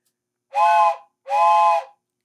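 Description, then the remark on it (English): A train whistle sounds a signal code of two long, evenly spaced blasts, meaning the train releases its brakes and proceeds. Each blast is a steady, breathy tone with a hissing edge, loud, separated by a brief pause. “There's a code here.”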